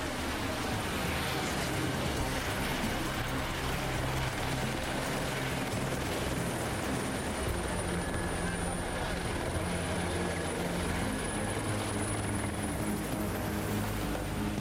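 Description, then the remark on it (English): A helicopter engine fires up on the outskirts of a village, loud, a steady, dense mechanical roar with a low throbbing drone that holds at constant strength for the whole stretch. “The sound of the helicopter engine firing up breaks the silence.”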